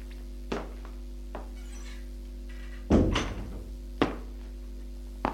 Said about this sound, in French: La porte s'est ouverte.